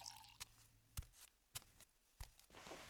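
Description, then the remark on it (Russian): Someone sips water from a glass, with four soft, wet gulping swallows at a steady pace, quiet, and no talking. “будьте любезны, выпейте воды.”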